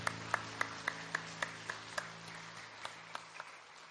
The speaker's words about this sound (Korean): 하나님 앞에 감사와 영광의 박수 올려드립시다. 아멘.